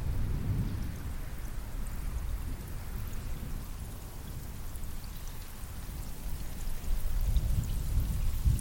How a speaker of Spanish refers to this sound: Miras al cielo y ves unas nubes enormes, oscuras, cargadas de agua. Los sonidos de truenos y relámpagos te ensordecen. Comienza a llover con intensidad.